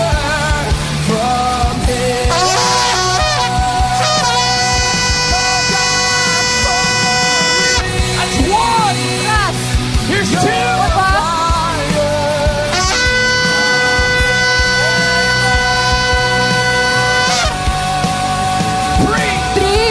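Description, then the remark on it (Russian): Two long, loud trumpet or horn blasts from a series of seven soundings, each a steady, brassy tone held for several seconds, with shorter honks and a constant rushing, rain-like noise filling the gaps. “Я буду трубить семь раз.”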